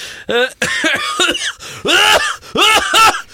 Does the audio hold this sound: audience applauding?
no